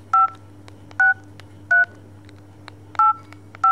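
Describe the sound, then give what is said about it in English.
Five short two-tone phone keypad beeps as a random keystroke text message is typed in reply, each pressed separately at uneven intervals with a longer pause in the middle, over a low steady hum. No one speaks. “She sends back a random keystroke text message to say basically, over and out.”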